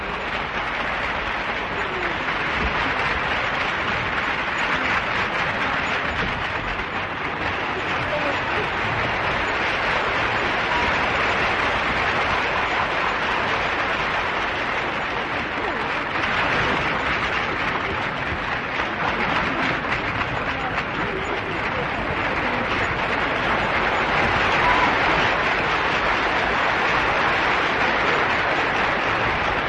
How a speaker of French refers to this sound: Et le rideau tombe sur la fin des fausses confidences, un joli moment d'art applaudi à tout rompre par les spectateurs.